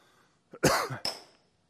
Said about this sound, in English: That was me, probably, because of the cough. I apologize.